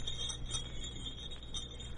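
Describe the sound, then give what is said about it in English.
Small jester's bells jingle steadily, a bright, high shimmering ring with soft shaken pulses every fraction of a second, fairly quiet and alone with no voices. “Bells, jester's bells. For 40 years I've lived with the sound of those bells.”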